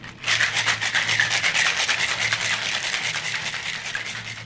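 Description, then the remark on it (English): A cocktail with egg whites is shaken hard with ice in a shaker, giving a steady, loud rattling swish of quick repeated strokes that runs unbroken for several seconds over a faint low hum, with no talking. “So ice. This one needs a really good long shake.”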